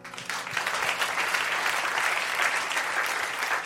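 An audience at a church service applauds steadily, a dense, even wash of clapping from many hands that holds at a fairly strong level throughout, with no voices rising above it.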